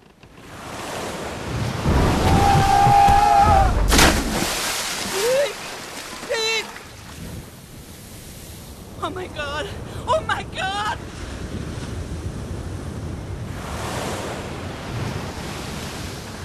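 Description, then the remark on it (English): Rough ocean waves roll and surge in a steady, loud wash, swelling and receding around the listener, heard from a boat at sea, with brief voices and cries rising over the churning water. “Skulking neath those waves, every swell a precipice.”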